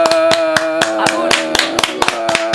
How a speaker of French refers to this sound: Et maintenant que tout le monde est revenu à sa place, on t'applaudit très très très fort.